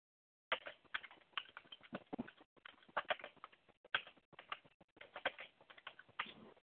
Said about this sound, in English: My laptop is down. I have to use this stupid desktop computer. And the keyboard I have is noisy.